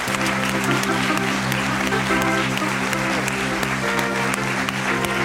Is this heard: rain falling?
no